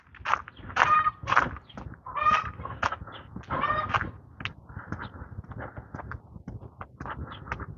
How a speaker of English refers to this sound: Somebody has chickens. Noisy chickens.